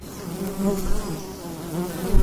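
Bees and bumblebees buzz steadily over a wildflower meadow, a low droning hum with several insects overlapping and swelling slightly as they pass; no voices.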